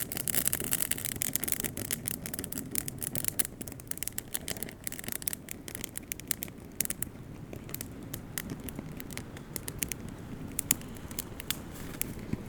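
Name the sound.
crackling fire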